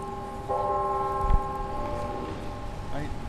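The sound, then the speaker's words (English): The Northern Illinois University clock tower chimes over the campus garden at watering time, sustained bell tones that hang and overlap in the open air, with faint outdoor background noise and murmuring voices beneath. “He shows off the free-to-pick gardens as the university's clock tower chimes.”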